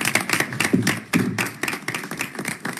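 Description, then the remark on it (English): An audience at a council meeting certifying an election applauds the election staff with dense, steady clapping that holds at an even level for about three seconds, the sharp hand claps overlapping with a few louder individual claps standing out. No one speaks. “Can we give them a quick round of applause?”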